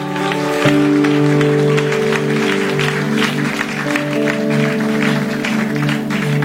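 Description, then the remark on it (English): A church audience claps steadily and loudly for several seconds as a clap offering to Jesus, a dense wash of many hands, over sustained organ or keyboard chords holding underneath. “Let's give Jesus a louder clap offering.”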